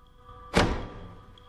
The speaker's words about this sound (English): Jack unbolts the door.